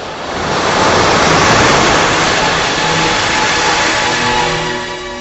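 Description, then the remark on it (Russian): Stormy surf and wind roar on a dune-lined shore at grey dawn, where a ship is in distress, in a dense, unbroken rush that swells slightly through the middle and keeps going without pause. No one speaks. “Наконец, после долгого-долгого ожидания, сквозь нестихающий шум шторма раздался крик.”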